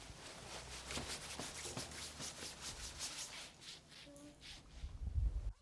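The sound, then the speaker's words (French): Busy rustling of coat fabric as children pull off their coats in the morning at an EREA school after the bell rings, a steady run of soft swishes and rubs, ending with a louder thump and shuffle. “Les enfants enlèvent leur manteau.”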